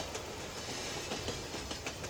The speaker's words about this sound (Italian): Corre forte il treno, corre forte, io mi perdo. Il suo fischio mi chiama